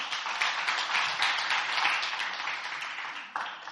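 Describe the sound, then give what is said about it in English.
An audience at Last Adam Tabernacle claps their hands together for the worship team, a dense, steady crackle of many overlapping claps sustained at an even loudness, with no voices rising above it. “Let's give them another big hand clap.”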